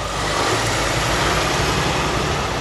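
Heavy truck engines rumble steadily and loudly, a dense low drone of a formation of trucks moving off together toward a bridge on-ramp, with broad road noise filling the background and no voices.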